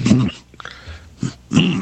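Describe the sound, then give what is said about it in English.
A person imitates a yak's deep bark, producing a few low, gruff, bark-like bursts separated by short pauses, with the last one loudest. “They make a deeper sound than that. It's like a very deep bark.”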